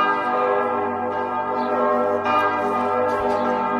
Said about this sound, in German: Das sind so Glocken, ne? Da kommt man ja, aber man muss bei Glocken muss man auch ein bisschen immer zuhören, denn die Schwingung, die so Glocken auf uns wirken, die wirken in uns nach.